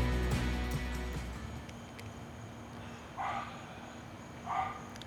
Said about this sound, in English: And for whom the dogs start barking as soon as he turns on his camera. Nice symphony.